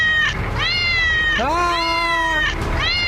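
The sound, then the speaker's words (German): A cat meows three or four times in quick succession, loud, high-pitched, drawn-out cries with a whiny, sliding tone, the longest one in the middle, the last cut short. “Einfach eine Katze oder so?”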